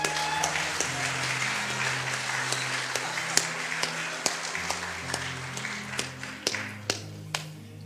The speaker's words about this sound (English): Can we give her a hand clap?